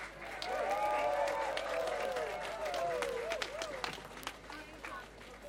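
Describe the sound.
A crowd applauds with a dense patter of clapping and sharp individual claps, while voices cheer and whoop over it; the applause stays strong, then eases slightly toward the end.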